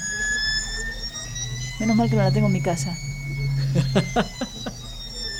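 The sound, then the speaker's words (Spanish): A 3D printer's stepper motors whine with steady, high-pitched tones that hold throughout, while a person talks over the mechanical hum partway through. The sound is amplified; the printer is not actually very loud. “Ese es el sonido de una impresora 3D.”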